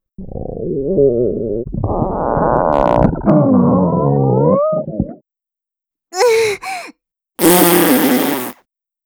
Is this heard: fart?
yes